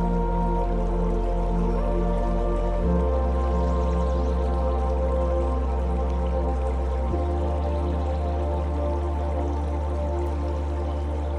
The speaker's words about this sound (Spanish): Mientras de fondo escuchas el agua relajante del riachuelo.